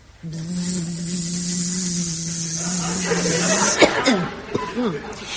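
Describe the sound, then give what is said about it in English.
A voice imitates a little bee with a steady buzzing drone that holds for about three seconds, then breaks into a few short swooping vocal sounds. “Do you know who my friend is? Of course you do. He's a little bee, isn't he?”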